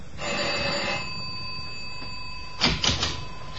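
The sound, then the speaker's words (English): The doorbell of apartment 6G on the sixth floor rings with a steady, bright electric tone that holds for several seconds, followed by two brief clattering bursts near the end. No one speaks. “Find 6G and ring the bell.”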